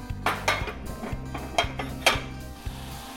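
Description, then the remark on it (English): A few irregular metallic clanks and knocks of a pot of water being brought to a boil on a stovetop, moderately loud, over a steady low hum with no talking. “Okay, I've got this boiling now, and I'm gonna add some salt and some ammonia and then some of my iron tablets.”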